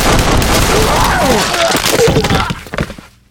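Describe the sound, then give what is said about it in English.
Gunshots in a room: a loud, dense barrage of overlapping blasts for a couple of seconds, then a few last sharp cracks before it cuts to silence. “The attendant just stood there, his hands over his mouth and his eyes wide and tearing from the acrid gun smoke in the room.”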